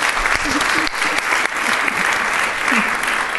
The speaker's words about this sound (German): Applaus.